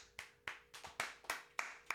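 A brisk run of about seven sharp, crisp hand claps in a steady, even rhythm, each one loud with a quick decay, and no talking in between.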